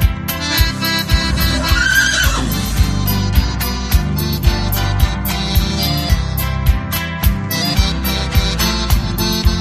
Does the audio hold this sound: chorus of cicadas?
no